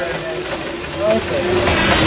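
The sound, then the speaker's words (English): Golf balls rattle around inside a running blender: a steady, loud mechanical grinding and clattering, churning continuously for a couple of seconds with a slight surge midway. “All right, so that's golf balls in a blender.”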